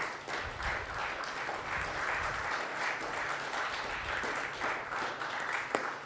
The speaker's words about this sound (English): All right, another round of applause for the open mic participants.